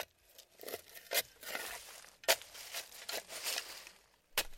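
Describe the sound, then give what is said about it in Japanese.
A shovel scrapes and crunches into loose soil several times, digging a small hole in a vacant lot to bury a dead cat, with gritty bursts of digging followed by a few firmer thuds as the ground is patted down, fairly quiet. “しかしすぐにショベルで小さな穴を掘って、死んだ猫を埋めた後、地面を鳴らした。”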